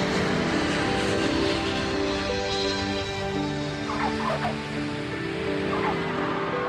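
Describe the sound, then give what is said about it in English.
A British Airways airliner landing in Vancouver, Canada, its jet engines producing a steady, loud roar with sustained whining tones throughout. A few brief chirps surface midway through. No one speaks. “A British Airways plane lands.”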